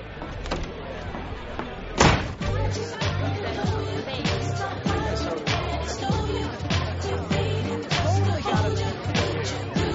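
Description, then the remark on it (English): A door shuts with a single sharp, fairly loud thud about two seconds in, amid a busy, echoing restaurant where people talk and murmur throughout. “Hey, babe, did she get the door? Nice.”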